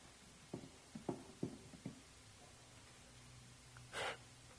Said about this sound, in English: I just heard a gasp. I don't know where it came from.